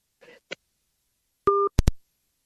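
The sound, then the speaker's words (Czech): A short, steady telephone tone, like a busy or disconnect signal, sounds once as an hour-long on-air phone call drops, followed by two sharp clicks. A faint murmur and a click come just before it. “Že nám vypadla, protože jsme telefonovali hodinu.”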